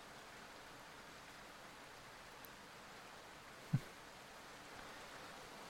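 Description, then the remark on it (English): Steady, soft rain falls throughout, a continuous hiss of drops with no voices. A single brief thump cuts through midway, then the gentle patter continues evenly. “I don't know what you expected running off in the rain like that.”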